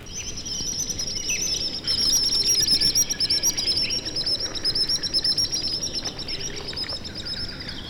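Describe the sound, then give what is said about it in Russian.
Common sandpipers fly low over the water, giving shrill, piercing whistles in quick repeated bursts over a steady wash of water-like background noise, the calls fairly loud throughout. “Пронзительным свистом над самой водой проносятся кулики-перевозчики.”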